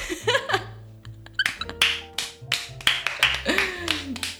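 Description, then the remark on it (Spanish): A handful of sharp, fairly regular claps, roughly a few per second, with some voice sounds and squeaky noises mixed in beneath them. “Un aplauso.”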